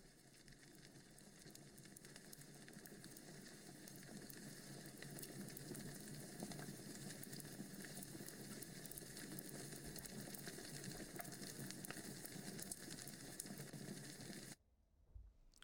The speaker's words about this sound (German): Hier drinnen erwartet dich ein bequemes Sofa und daneben prasselt in einem offenen Kamin ein kleines Feuer.